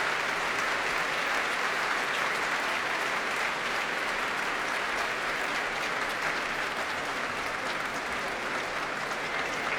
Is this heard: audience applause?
yes